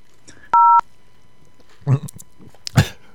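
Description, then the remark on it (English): A single loud telephone keypad tone, a steady two-pitched beep lasting about a quarter second, pressed while calling a Victoria's Secret store phone menu, followed by a few short muffled vocal noises and rustles. “To speak to a Victoria's Secret specialist, I want the other girl. Press zero.”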